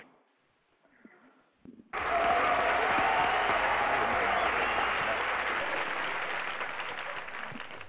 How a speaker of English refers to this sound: Gotta love that applause.